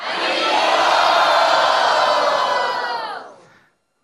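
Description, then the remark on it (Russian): A large crowd shouts the chant "Haribol" together in unison to show they like a logo, one loud sustained roar of voices that holds for about three seconds before trailing off, followed by a short tap. “И если вам этот логотип нравится, пожалуйста, крикните «Харибол».”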